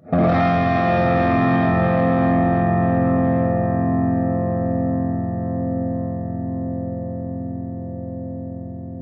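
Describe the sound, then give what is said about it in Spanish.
A single sustained electric guitar chord played through an overdrive pedal rings out loudly with warm overdrive saturation, its harmonics slowly decaying over several seconds with no one speaking. “Si tocas más duro, pues ahí sí va a dar como que un color un poquito más distorsionado, pero evidentemente el overdrive no es distorsión, o sea, más bien simplemente es una saturación que se está emulando por ahí.”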